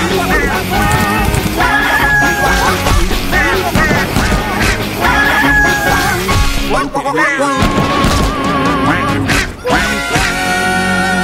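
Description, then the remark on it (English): Rooster crowing sounds and duck-like quacks repeat within a loud, busy mix of video game effects, with bursts of squawking and clatter filling the whole stretch without pause. “Actually, I think if you miss a few of those, I think the roosters have been working way better for me, so maybe I'll get a better score.”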